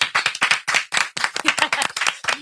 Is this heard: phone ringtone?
no